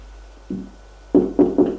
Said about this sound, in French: On frappe à la porte.